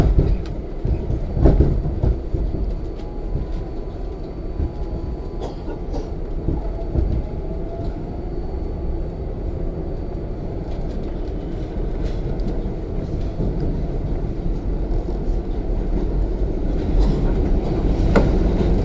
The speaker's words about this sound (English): Now the subway sounds loud because, well, it is. But it was cool. It was my first experience on the New York subway, actually.